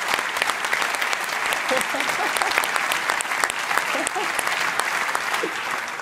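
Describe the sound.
Steady applause from an audience, a dense crackle of many hands clapping at an even loudness for several seconds, with faint voices calling out underneath.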